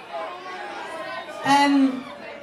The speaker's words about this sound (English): This is the biggest crowd we've played to here yet, and it's the best crowd yet, so thank you so very much for having us.